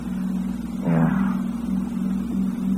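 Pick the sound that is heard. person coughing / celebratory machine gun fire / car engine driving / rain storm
car engine driving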